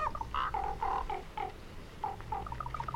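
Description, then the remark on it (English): Ravens at a landfill in Wyoming give a run of short, throaty calls and croaks while fighting over scraps, some overlapping in quick bursts, over a low rumbling background with brief pauses between groups of calls. “Hundreds of blackbirds flapping overhead, fighting over scraps, and making strange, almost human-like sounds.”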